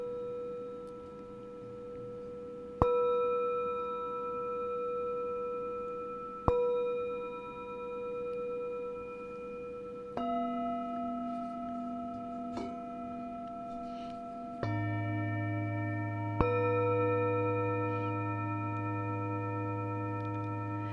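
Several small, golden singing bowls are struck one after another, about five strikes in all, each clear ding blooming into a long, sustained ring that overlaps and layers with the earlier tones, steady.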